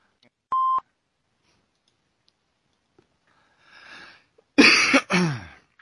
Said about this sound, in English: You guys have been missing the hack fest that's been going on behind the scenes. I have been coughing up a storm.